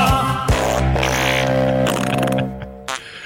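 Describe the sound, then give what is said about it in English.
A long, buzzy fart sound effect, low and rumbling with a rough, sputtering texture, holding steady for a few seconds before trailing off with a couple of short final blurts. “It is the best fart noise I've ever heard in my life.”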